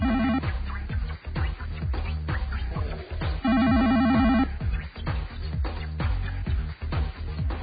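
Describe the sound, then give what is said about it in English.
Someone mimics a telephone ringing with their voice, making loud, short trilling bursts that repeat over and over, broken up by quick clicks and pauses. “Like, you see, that's a boring ring. They're very, very short rings.”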